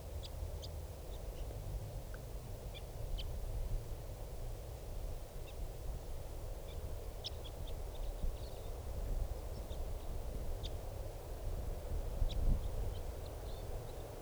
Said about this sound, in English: Here's the bird.